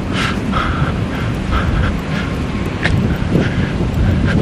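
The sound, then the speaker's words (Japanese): A steady lakeside breeze off Lake Biwa, near Yanagasaki Yacht Harbor in Shiga Prefecture, Japan, buffets the microphone with a constant low rumble and rough, gusty roar, occasional brief crackles and rattles cutting through; no voices. “やっぱ海風とは違いますね。やっぱりね、同じ浜風でもやっぱり海が近づくとそれなりに潮の香りというのがするものなんですが、琵琶湖は海じゃありませんので、そういった匂いは感じません。”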